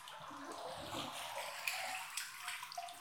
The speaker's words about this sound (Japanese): ソープフラワーをこうやって花びらに水圧がかかるようにお湯で溶かしていくと、ほら、ふわふわの泡で変わるんですのよ。